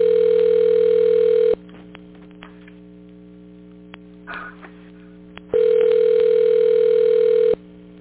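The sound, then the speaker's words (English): Phone ringing on a call to a doctor: two long, steady ringback tones, each a couple of seconds, separated by a quiet pause of several seconds over a faint low hum. No one speaks. “You hear the phone ringing now.”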